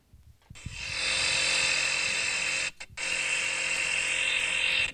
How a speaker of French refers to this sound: Ça peut être quoi ça? Le frigo, ouais, le réfrigérateur.